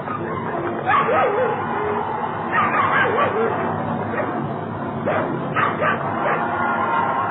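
Dogs bark and whimper in scattered bursts over a steady, noisy background, with sharp yips and drawn-out whines rising and falling, fairly close and moderately loud.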